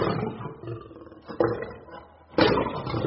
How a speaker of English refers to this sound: A lion? Indeed.